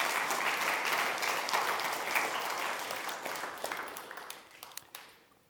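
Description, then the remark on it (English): Audience applause, a dense wash of many hands clapping steadily, then thinning out into a few scattered claps before fading to quiet near the end. “So once again, maybe a round of applause to say thank you so much for that.”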